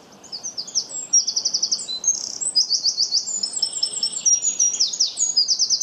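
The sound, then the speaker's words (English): A wren belts out a loud, rapid song of high trills and sharp chattering notes, pouring out continuously for several seconds with barely a pause, no voices present. “a wren reminds him of an opera diva giving her all in the last act, because they really do sing very loudly”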